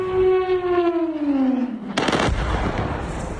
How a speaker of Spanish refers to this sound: en Venezuela hace tan solo unos minutos se han registrado varias explosiones en varios puntos del país. Escuchamos ese sonido.